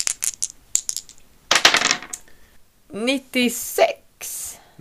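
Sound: dice being rolled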